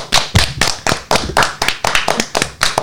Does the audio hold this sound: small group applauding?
yes